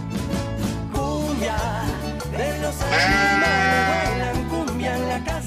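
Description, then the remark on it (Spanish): A sheep bleats several times in wavering, quavering calls, loud, over a steady musical backing with a pulsing bass line. “Claro, oveja, por supuesto, es para todos los chicos y las chicas, me aclaraba la oveja, no diga solo para los chicos de San Juan, claro, tenés razón”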